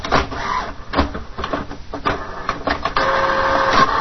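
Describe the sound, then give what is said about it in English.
A printer whirs and clicks as it starts up, with repeated mechanical clunks and rollers engaging, then a steady louder grinding hum as a page feeds through. “You hear it starting to print. That's how the printer sounds.”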